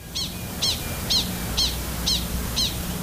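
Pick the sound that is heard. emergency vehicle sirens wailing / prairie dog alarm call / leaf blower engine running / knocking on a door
prairie dog alarm call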